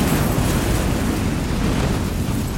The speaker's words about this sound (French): Pas le temps de quitter le véhicule, hésitation fatale, le motard vient de coller une mini-ventouse magnétique sur la voiture. Moins d'une minute plus tard, la charge explose.